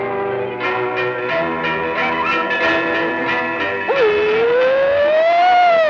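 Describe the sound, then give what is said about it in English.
A black bird flying through a forest mimics a siren: a loud, harmonic wailing tone that pulses steadily, then dips and swells into a rising, drawn-out sweep, continuous with no talking. “A black bird mimics a siren as he flies through the forest.”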